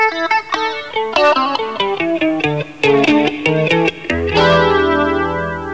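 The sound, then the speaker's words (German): An electric guitar plays a quick run of plucked notes soaked in a swirling flanger effect and lush artificial reverb, ending on a sustained chord that rings out and slowly fades. “Wenn wir zu diesem Flanger noch künstlichen Nachhall verwenden, klingt das so.”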